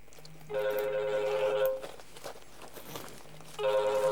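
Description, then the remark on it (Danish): A telephone rings in two bursts of trilling electronic tone, each lasting about a second, separated by a pause with a faint low hum in the background. “Vi skal lige have slukket en telefon.”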